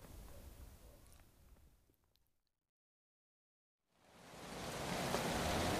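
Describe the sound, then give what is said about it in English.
Steady rain hisses, fades away into a couple of seconds of silence, then swells back in, heavier than before, with no voices. “Ah, you won't have to stand in the rain for much longer”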